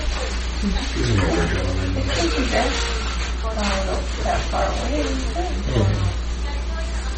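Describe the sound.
A dog barks and yelps several times, the calls rising and falling irregularly over a steady low hum, with muffled voices mixed in.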